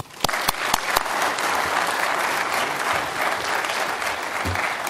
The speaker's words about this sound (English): So won't you please give a warm round of applause and help me welcome